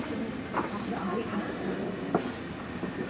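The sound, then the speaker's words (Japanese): A commuter train bound for Shinjuku rumbles steadily, heard from inside a carriage, with a constant low roar, faint rattling clicks and a sharp knock partway through, while a voice murmurs underneath. “この電車は新宿行きです。”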